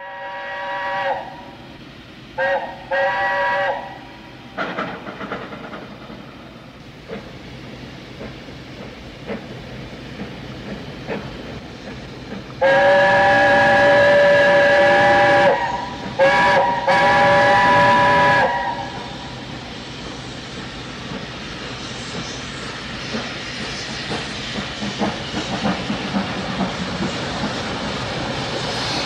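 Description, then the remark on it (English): A Britannia Class steam locomotive, number 70033 Charles Dickens, pulls away from Stirling Station for Perth in the late evening with a three-coach passenger train from Carlisle, amid a chorus of shrill whistles, several short blasts early on and a long loud one midway, over the steady rumble and chuff of the departing train. “4 minutes later, there's a chorus of whistles as the Britannia leaves for Perth.”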